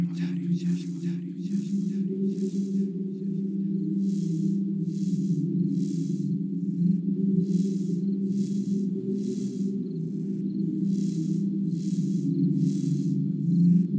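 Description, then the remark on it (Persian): Crickets chirp at night in steady, evenly spaced high-pitched bursts, about two a second, layered over a constant low humming drone that runs the whole time. “همونگاه آواز جیر جیرک ها به شب منای زیبا بخشید.”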